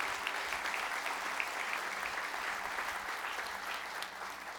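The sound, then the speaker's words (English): An audience applauds steadily, many hands clapping in a dense, even wash of sound that holds at a constant level for the whole stretch, with no voices breaking through. “Can we applaud God's good work even among us?”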